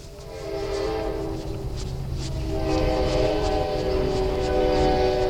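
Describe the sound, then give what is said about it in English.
A train rumbles past with a loud, sustained horn blaring throughout, its steady harmonic tone swelling louder toward the end over a constant low mechanical roar. “Come on in, train.”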